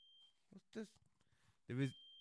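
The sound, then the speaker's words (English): A fire alarm sounds as a steady, high-pitched electronic tone at the start and end, interrupted by short bursts of voice in between. “I think the fire alarm's going off here.”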